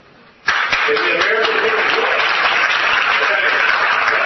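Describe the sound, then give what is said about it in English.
Clapping and applause break out abruptly after a brief quiet moment, then continue as a dense, steady wash of many hands, with crowd voices mixed in underneath: an audience at the Faith and Freedom Coalition applauding talk of shutting down the government. “Listen to him clapping about shutting down the government.”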